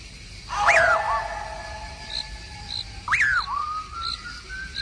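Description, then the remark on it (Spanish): Dogs howl in the night: two long, wavering cries that rise sharply then sink into a drawn-out tone, heard one after another, with faint high chirps in the background. “La noche negra y teñida ahoga el aullido de los perros.”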